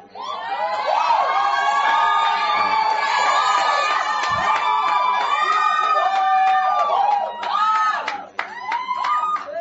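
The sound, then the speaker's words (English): A large church audience cheers and shouts loudly and continuously, many voices overlapping in excited whoops, with scattered applause mixed in, reacting to news that resources for their new venue are on ground, before the noise briefly dips near the end. “I know the reason why you clap, but you didn't hear my full statement.”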